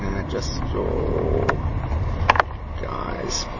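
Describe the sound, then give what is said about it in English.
A car drives past behind the speaker outdoors near local shops, its steady low engine rumble and road noise filling the background, with a few sharp clicks and a voice heard faintly over it. “And a car behind me, just checking everything's going.”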